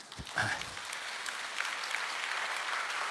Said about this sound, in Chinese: 谢谢你们要为我拍手，我感谢主，因为是上帝恩典。但是我的意思是，你要为你自己拍手，因为上帝在你身上就是有这样荣耀的计划。